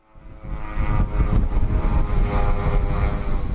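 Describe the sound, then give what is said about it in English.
A steady, droning engine buzz of Russian attack drones swarming over Kyiv, Ukraine, fades in quickly and holds loud and sustained overhead, with a harsh propeller-like whine and no voices. “When Russian drones swarm over Kyiv, their sound is unmistakable and it's nerve-wracking.”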